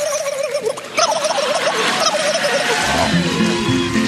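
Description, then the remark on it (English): An 11-year-old girl performing animal noises at a talent show audition imitates a turkey gobble with a rapid, warbling trill that wavers up and down for a few seconds, over background noise, with lower voiced sounds coming in near the end. “Turkey.”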